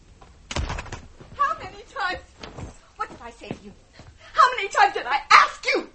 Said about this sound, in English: And then, I heard the two women come in the back door.